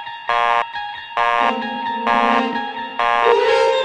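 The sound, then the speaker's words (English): A telephone busy signal, heard after dialing one's own number, repeats in four evenly spaced, buzzy beeps, loud and steady, with a lower continuous tone joining partway through and holding under the pulses; the old dial tone, gone since 1965, is still present on the busy signal. “The old dial tone was still there, on the busy signal, even though I couldn't get it picking up the phone anymore.”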